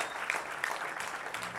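A concert audience applauds the band's newest member on stage during a tour concert, in a steady, dense wash of clapping, with a few sharper claps and faint whistles standing out, holding at an even level throughout without any talking.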